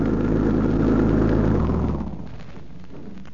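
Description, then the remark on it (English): An arriving car's engine roars loudly with a deep, steady rumble, then drops after a second and a half to a quieter, lower idle that keeps running. No one speaks. “Doesn't that sound like their car?”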